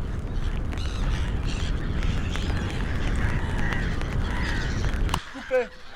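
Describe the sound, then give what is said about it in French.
A gull cries out over the steady wash of surf, its harsh calls half-buried in the roar before a final clear, squawking call rings out once the waves drop away. “Foudard ou RTF, de la marée avec sa putain de mouette.”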